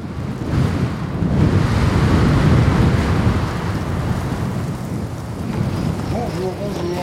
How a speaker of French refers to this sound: Vous prévenir que les cabines vont bientôt fermer. Comment ça ? Il y a trop de vent en fait.